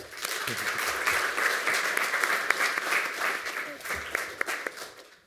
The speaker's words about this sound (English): And I think that's a new record at 2 minutes and 29 seconds. So give him a round of applause for that.